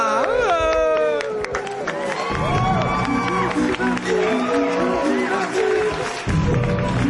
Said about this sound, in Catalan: Hòstia, han aplaudit. Però no sé si han aplaudit la guillotina o la falta d'efemèrides.